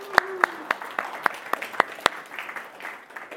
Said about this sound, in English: You clap for them now, that's great, because you might not want to clap for them in a minute.